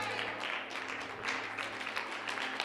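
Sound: audience clapping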